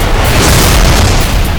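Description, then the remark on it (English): A powerful explosive blast as a 20-millimeter high-explosive shell detonates in the breech of a Phalanx cannon and sets off the surrounding cannon rounds in a chain-fire explosion. It is loud, with a deep booming low end and a sustained roaring rumble that fills the whole moment without fading. No voices. “The spinning breech snapped shut on one explosive tip milliseconds after the initial grenade blast, and the HE shell ripped apart and self-destructed in a powerful flash.”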